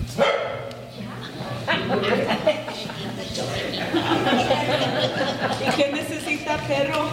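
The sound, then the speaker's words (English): A stray dog barks repeatedly in short, sharp bursts inside a church packed with Vista Rossi residents for a community meeting on a very hot September day in 2023, its yaps rising over the steady murmur of the crowd talking. “On a very hot September day in 2023, the residents of Vista Rossi packed into a church for a meeting, joined by a stray dog who also happened to wander in.”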